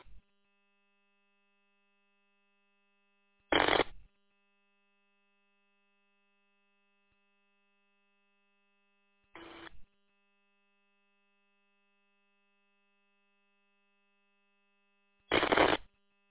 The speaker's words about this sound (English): People keying up, but not saying anything.